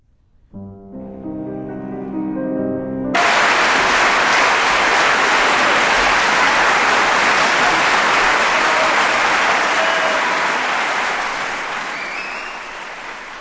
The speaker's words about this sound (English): Wow, that applause goes on for another 20 seconds. I guess they liked it.